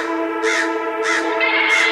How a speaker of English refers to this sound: Birds.